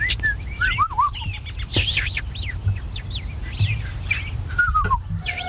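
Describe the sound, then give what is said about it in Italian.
Birds chirp and tweet throughout at the start of a song, a lively mix of quick whistled calls and rising and falling notes over a low steady rumble, with no one speaking. “Ci sono gli uccelli prima. Sentite.”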